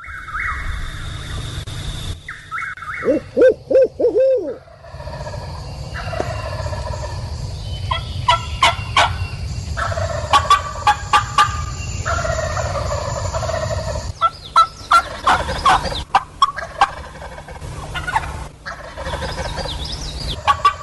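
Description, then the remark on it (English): Wild turkeys gobble loudly again and again in response to a hunter's calling, shortly after daybreak, with rapid rattling bursts overlapping one another, broken up by short higher-pitched calls and a low steady hum underneath. No one speaks. “And then when he kept hearing the turkeys, then he started smiling.”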